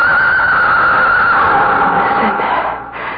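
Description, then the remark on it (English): A loud, drawn-out whinny from a blue-roan stallion, high and strained at first, then sliding lower and fading over about three seconds, with no other sounds. “He is calling me. Who? The blue-roan stallion.”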